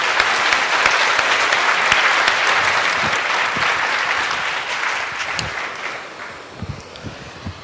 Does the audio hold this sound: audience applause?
yes